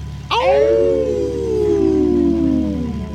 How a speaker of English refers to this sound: I do like the howling. It's kind of cool.